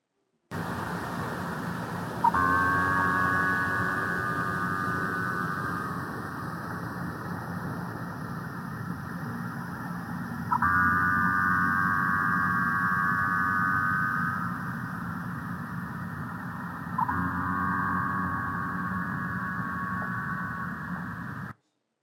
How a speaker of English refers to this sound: Minke whale. Sounds kind of like a foghorn to me.